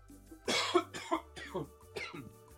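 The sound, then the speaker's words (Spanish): A run of about four harsh, raspy coughs in quick succession, fairly loud, each one a short rough burst, with a low steady hum underneath, outdoors under a small roof. “Voy a toser.”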